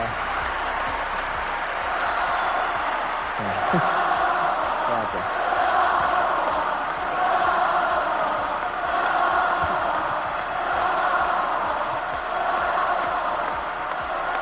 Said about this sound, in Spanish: Se despidió de la afición en un discurso emocionado, recibiendo una gran ovación por parte del público que llenaba el Martín Carpena.